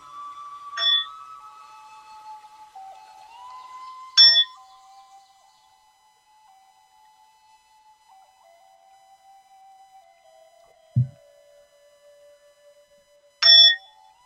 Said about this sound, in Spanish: Invito el sonido de esta campana para que puedas volver a tu respiración.